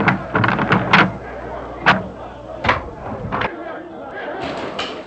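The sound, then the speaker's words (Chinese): A noisy crowd in the city of Jerusalem clamors continuously, many overlapping voices blending into a dense roar, punctuated by a few sharp thuds and bangs, loud throughout. “你去开门，听听耶路撒冷城那种吵闹声。”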